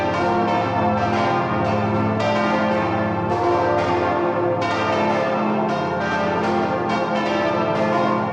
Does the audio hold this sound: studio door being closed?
no